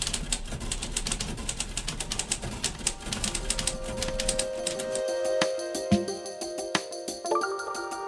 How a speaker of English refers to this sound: And the typewriter. All right, type away for me, please.